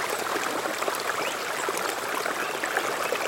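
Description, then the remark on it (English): Creek water ripples, splashes and swills steadily through rocks in a rainforest creek, a continuous bright babbling wash with small splashy flickers throughout, fairly even in loudness, with no voices. “Water rippling below, gently splashing and swilling through the rocks in the creek.”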